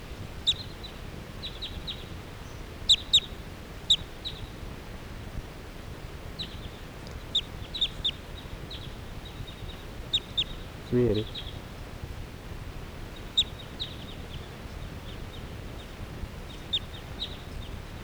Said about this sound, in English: The flock is flying away. This is 380. And now the birds are just generally flying in the air around here.